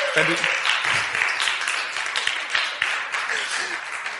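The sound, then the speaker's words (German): A crowd claps steadily for a few seconds, a dense, continuous patter of many hands, with a voice or two faintly mixed in at the start. “Wenn du nachträglich jetzt nochmal ihm Applaus geben willst, ist das okay.”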